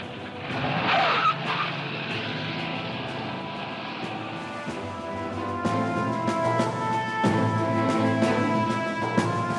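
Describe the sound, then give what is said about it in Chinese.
A car engine roars as tires squeal and skid across pavement, the screeching rising and holding steady while the vehicle speeds away, loud throughout with no voices. Harry Truman has rushed out and got into the car, which takes him to the White House. “讲话时，杜鲁门面色开始变得苍白，放低电话，二话不说就冲出门，上咗汽车。”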